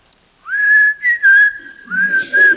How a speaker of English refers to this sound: I know you're behind that bush, but I'm not scared of you. And so you whistle.